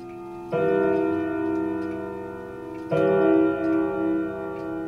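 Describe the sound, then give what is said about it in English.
A clock, just repaired after a few hours of work, chimes twice, each strike a rich, bell-like tone that rings and sustains for a couple of seconds, with a soft steady ticking beneath. No one speaks. “After a few hours of tender repairs, a chime, a sound seeming to bring back the presence of Leona's husband.”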